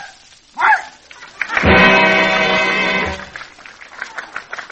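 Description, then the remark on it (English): A quick yip, then a long, drawn-out barking howl that holds for over a second, loud, followed by faint background murmur; a performing talking dog named Hector answering what comes after February. “And now, the talking dog.”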